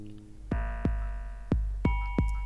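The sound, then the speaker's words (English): Deep, punchy kick drum thumps land five times in a loose syncopated pattern, mostly in pairs, over a sustained ringing electronic tone that shifts pitch partway through. No voices. “We got the kick and we got the gwing guang, the doorbell.”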